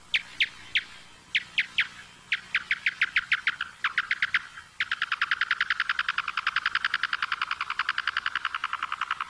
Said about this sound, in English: Yeah, so what we're listening to are calls produced by the big brown bat, the local species, and it's going after insect prey.